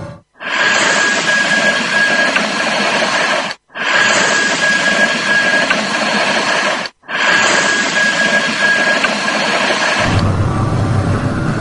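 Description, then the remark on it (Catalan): Morse code tones in a paranormal psychophony recording: a thin, steady high-pitched beep keys on and off in short and long pulses beneath loud, harsh static. The static comes in three long stretches with brief breaks, then turns to a lower rumble. “Sembla que hem contactat amb alguna cosa o alguna entitat desconeguda, però la psicofonia que més ens impressiona no és cap veu, sinó una sonoritat molt especial que ens recorda un missatge en codi morse.”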